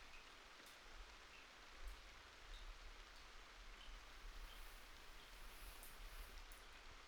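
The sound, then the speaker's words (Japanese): Steady rain patters down on leaves and into puddles, a soft continuous hiss dotted with scattered drips, fairly quiet and even throughout with no voices. “葉っぱに雨が落ちる音とか、水たまりに落ちていく音”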